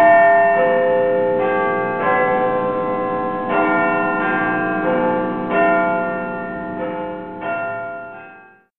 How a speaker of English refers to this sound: But it's actually the big bell inside the tower that's called... Yes, what is it called? Anyway, the bell is big and heavy. It weighs over 13 tons. You can hear it every day on the radio.